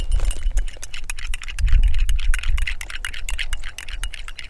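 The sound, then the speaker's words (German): A spoon clinks rapidly and repeatedly against a small glass of tea as a man stirs in a heaped spoonful of sugar, making quick metallic taps over a low rumble of background noise, while he sits on the ground at the edge of a wheat field. “verrührt einen gehäuften Löffel Zucker in einem kleinen Glas Tee.”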